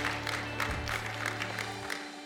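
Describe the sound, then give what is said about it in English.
An audience applauds, many hands clapping together in a dense, steady patter that holds evenly for a couple of seconds over a low background hum. “I thought I'd get a hand clap or an amen.”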